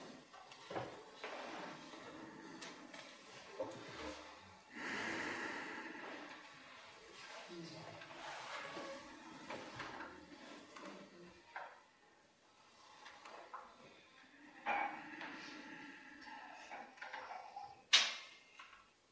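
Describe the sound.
A kitchen door is opened with a handle click, a creak, and a soft thud, followed by scattered clicks and rustling; faint voices murmur in the background.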